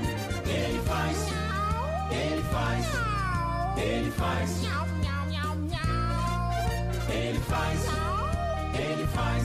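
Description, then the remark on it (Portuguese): Repeated kitten-like meows, probably a voice imitating them, rise and fall in a steady rhythm over continuous, fairly loud backing music. “Eu conheço um gatinho, ele é meu amigo, ele gosta de subir no telhado.”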